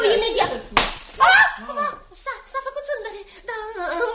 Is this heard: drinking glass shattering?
yes